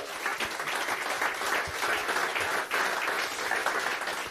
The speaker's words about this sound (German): Danke, einen Applaus